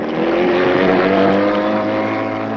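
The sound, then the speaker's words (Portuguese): A boat's engine drones steadily and loudly as it travels on the Amazon River toward Manaus, a constant low hum with a rough rumbling texture that holds without pause for the whole stretch. No voices are heard. “Navegar pelas águas do rio Amazonas rumo a Manaus.”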